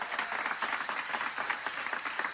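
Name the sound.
hand clapping applause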